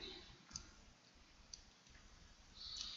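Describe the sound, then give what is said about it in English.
Two soft, sharp clicks about a second apart as a presentation remote's button is pressed to change slides during a talk, heard against a faint, steady hum with no one speaking. “I'm having trouble clicking the slide.”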